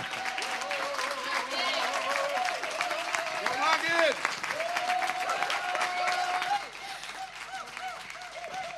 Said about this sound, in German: Und wir haben gehört, Ehre geht nur mit Stehen. Ja? Applaus, Applaus mit Aufstehen.